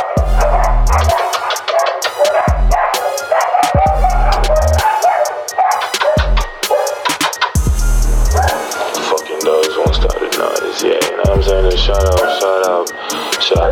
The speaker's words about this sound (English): God damn it, dogs. Fucking mongrels.